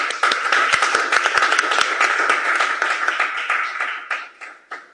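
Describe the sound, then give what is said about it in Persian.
An audience applauds to welcome a guest from Isfahan invited to speak about weight, with dense, continuous clapping that stays steady for several seconds, then thins out into scattered individual claps as it fades toward the end. “خب یکی از بچه‌ها باز دو مرتبه از اصفهان امروز اومد پیش من، ازش خواهش میکنم بیا راجع به وزن صحبت کنه. افتخارش دست بزنید.”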